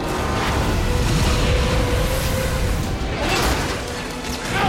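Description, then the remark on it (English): Loud, violent explosions roar almost continuously aboard a ship, sending a fireball through the engine room and ripping up through the deck: a dense rumbling wall of blasts and crashing debris with deep booming low end and no pauses. “The explosions become ever more violent, sending a raging fireball through the engine room.”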